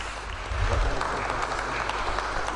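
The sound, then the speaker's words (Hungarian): A crowd applauds steadily for a photographer receiving an award for a digital photograph, dense clapping sustained throughout at moderate loudness, with a low rumble beneath and no clear speech. “Ezt a tapsot ezért a digitális fényképért kapta Cintos Ödön fotós.”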